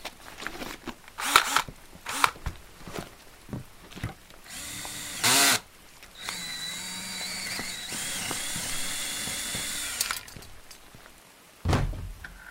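A power drill whines steadily for several seconds as it bores into the metal lock of a house door, its pitch wavering under load, surrounded by clicks, clunks and handling knocks before and after.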